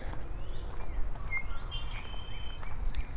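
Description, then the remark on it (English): Several thin, whistled bird calls and a buzzy trill from red-winged blackbirds sound over a steady low outdoor rumble at a pond, with no one speaking. “More red-winged blackbirds.”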